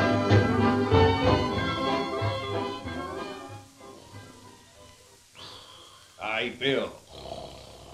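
A man snores loudly in long, rough, growling breaths with a deep rumbling undertone, then lets out a few shorter, higher snorting bursts.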